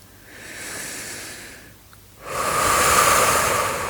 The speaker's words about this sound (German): Atme ganz fest aus. Und wieder ein. Lerne die Bauchatmung wieder.